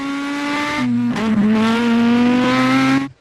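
A loud race car, number 10 driven by Jean-Louis Schlesser, holds a steady, buzzing engine roar, dipping briefly in pitch partway through as it brakes into a left turn, then pulling hard again before cutting off abruptly.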